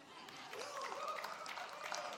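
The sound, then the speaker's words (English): A church audience cheers and claps together, a steady wash of voices and applause that holds for a couple of seconds at a fairly even, moderate loudness. “I told you not to cheer when I say that.”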